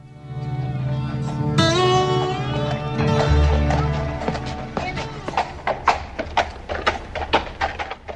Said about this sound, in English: Twelve men on horses ride slowly into town. Their hats are low on their faces. They stop in front of the Clay County Savings Bank.